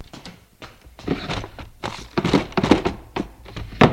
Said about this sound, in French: Va dans la cuisine. Ouvre un tiroir du buffet.